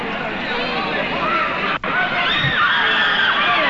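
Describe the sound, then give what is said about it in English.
A girl screams, refusing to be taken by police, over a loud, dense crowd din of students, her high cries rising and bending above the chaotic babble of many voices, broken by one brief gap in the noise. “A girl is screaming, refusing to be taken.”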